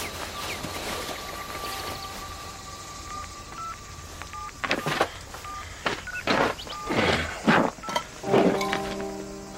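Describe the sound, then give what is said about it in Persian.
A telephone is dialed to call an engineer: a string of short keypad beeps in uneven bursts, moderately loud, then a steady ringing tone begins near the end. No one speaks. “جرأت داری به این زنگ بزن؟”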